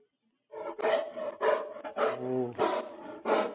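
A dog barks loudly about five or six times in an uneven rhythm, each bark a harsh, deep burst, one drawn out into a longer growly yelp, with no talking.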